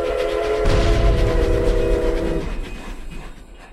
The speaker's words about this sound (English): that's such a great little segue it is. There. Train and everything.